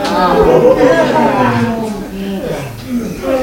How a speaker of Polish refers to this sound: Szeroko ziewamy.